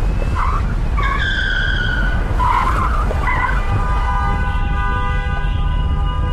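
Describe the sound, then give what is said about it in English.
Car tires screech loudly through a sharp right turn down a ramp, several shrill squeals rising and wavering before settling into one long sustained whine, all over a steady low rumble of engine and road noise. “Mark took a sharp turn right. We went down the oncoming ramp, zipped past some cars”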